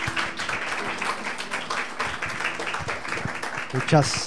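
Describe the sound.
An audience applauds together, a steady dense wash of many hands clapping for several seconds, with voices mixed in and one voice rising briefly near the end.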